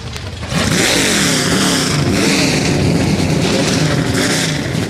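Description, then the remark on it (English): A field of 38 Xfinity Series race car engines fires up at once on the command to start engines, jumping from a low rumble into a loud, sustained, overlapping roar with revving throughout. “38 Xfinity Series engines come to life.”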